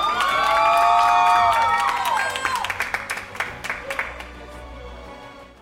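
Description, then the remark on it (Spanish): A crowd cheers and whoops with loud high voices, then the shouting fades into a steady patter of applause with many overlapping claps that gradually thins out. The applause is for all the nominees for Best User of the Year. “Un aplauso para todos los nominados.”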